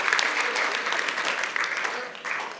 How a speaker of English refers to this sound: Go ahead and clap. That's okay.